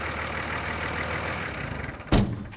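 A tractor engine rumbles steadily as it pulls into the yard, a low idling drone throughout, with a single sharp, heavy thump like a door closing near the end.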